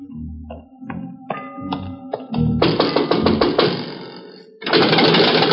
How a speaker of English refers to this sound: Night has fallen over Bombay Harbor, and the only footsteps heard on the mole are those of watchmen and police, and a few beggars too hungry to sleep.